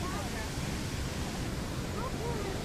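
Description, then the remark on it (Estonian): A waterfall roars steadily, its dense, continuous rush of falling water throwing out spraying droplets, filling the whole clip without any pause or change in loudness. “Siin kose all on veepiisad, mis veest välja puhisevad suure ooperast.”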